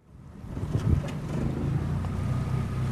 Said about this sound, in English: Last Saturday morning, I boarded a small boat and traveled along the canals of Venice, a city built on more than 100 small islands connected by 400 bridges. The atmosphere was calm, even on the Grand Canal,